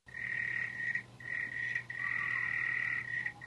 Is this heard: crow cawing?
no